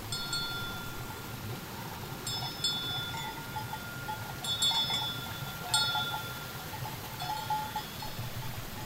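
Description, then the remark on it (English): Bells on a train of packhorses fastened together and carrying goods jingle and clank at an uneven, plodding rhythm over a low rumbling background, moderately loud, with no talking. “You always knew when they were coming because you could hear their bells.”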